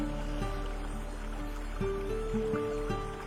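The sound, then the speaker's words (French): Gentle water of a forest stream lapping in a steady, continuous wash, blended with soft sustained humming tones; calm and even throughout, with no voices. “Et le doux clapotis de l'eau du ruisseau te guide doucement vers un sommeil profond et réparateur.”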